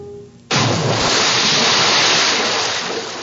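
After a brief quiet moment, a heavy load of tea, knocked from a cargo ship with a block and tackle at night, plunges into the water of Boston Harbor in 1774 with a sudden loud splash, followed by a sustained roar of churning, sloshing water. No one speaks.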